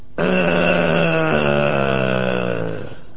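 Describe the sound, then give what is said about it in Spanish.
A dog named Sultán lets out a drawn-out, voice-like growl that bends in pitch as if trying to speak, about three seconds long, fairly loud with no other sounds. “Mire, aquí tenemos justamente a este perro que habla.”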